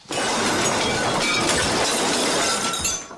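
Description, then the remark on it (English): A loud, sustained crash of dishes and glass shattering as a man pulls the tablecloth from a set dinner-party table, destroying every dish and falling over backwards, a dense clattering racket of breaking crockery that runs for about three seconds before cutting off, with no voices. “I mean, he destroys yeah. every single thing in this loud clatter.”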